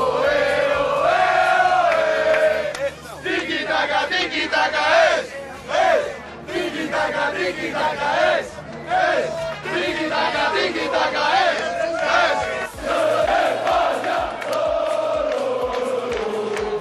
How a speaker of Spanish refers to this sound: Tiki-taka, tiki-taka es, ese es el grito.